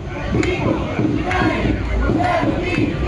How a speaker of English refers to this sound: Just 2 days later, the protests that began in Minneapolis over George Floyd's death while in police custody expanded to Milwaukee, including this march on Water Street.